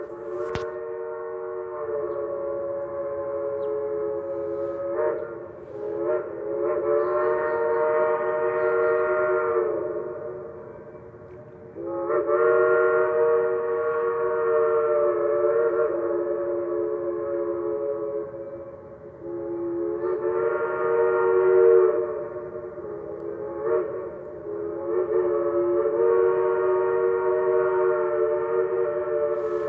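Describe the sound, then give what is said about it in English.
A train creeps slowly along the rails by the Tennessee River in Knoxville, Tennessee, giving off a continuous droning, metallic whine that swells and briefly eases several times throughout, steady, with no voices. “It's a train creeping along the rails by the Tennessee River in Knoxville.”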